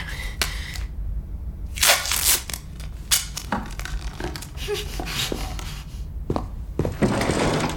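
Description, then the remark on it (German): Adhesive tape is ripped off a roll in a few harsh, noisy tearing bursts, with crinkling and handling sounds between them as it is pressed down. Fairly loud, with no talking. “knebel sofort meine Eltern wieder. Und auch diese Maya. Was? Nee, da mache ich nicht mit, auf keinen Fall. Matt! Okay, alles klar.”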